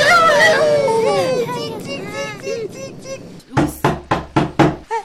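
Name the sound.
knocking on a door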